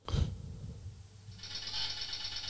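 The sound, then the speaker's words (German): Typewriter clacking: a low mechanical thump at the start, then a dense, rapid high-pitched rattling that runs steadily to the end, moderately loud, with no voices. “Schreibmaschine.”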